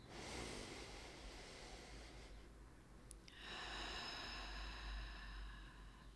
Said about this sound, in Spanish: Tomemos una respiración profunda juntos y dejar que lo que sea que necesites llevarte se integre contigo.